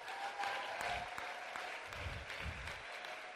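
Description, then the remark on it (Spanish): An audience applauds steadily to welcome back children who were at a camp, a dense crackle of many hands clapping at once, holding a fairly even loudness throughout with no voices heard over it. “Pido que por favor les demos un aplauso.”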